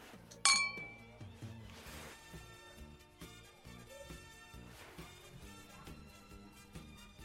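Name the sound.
glasses clinking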